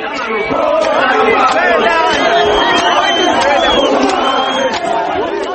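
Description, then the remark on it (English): A large crowd of men in a park in South Africa chants and sings together, "Foreigners, go back home. Go back to where you come from," many voices overlapping in a loud, dense roar with an aggressive, rhythmic edge that stays steady throughout. “They sing, "Foreigners, go back home. Go back to where you come from."”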